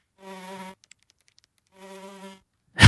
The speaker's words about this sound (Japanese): 聞こえますかね、このブーって、う ん、ブーンってさっきからハエの飛んでる音がしてるんで、皆さんこれヘッドホンで聞いてる方はちょっとなんか不快な思いをされてるかもしれませんが